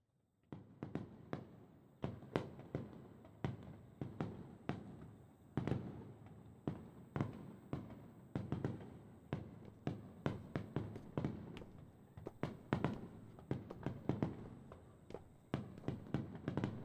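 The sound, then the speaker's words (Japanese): A rapid, continuous barrage of fireworks bursts, sharp booms and crackles overlapping one after another at a steady, intense pace, with no voices. “花火が終わる前に登ってきてくださいね。”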